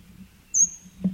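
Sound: bird calling overhead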